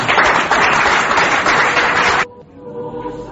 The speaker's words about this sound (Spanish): Pues un aplauso a todos desde nuestra parte.